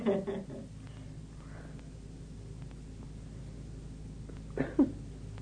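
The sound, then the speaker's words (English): A short, sharp sneeze bursts out at the start, followed by a stretch of quiet hiss and then a second brief sneeze-like burst near the end. “Bless you, my child.”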